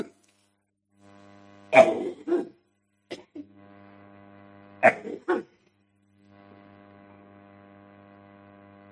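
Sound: coughing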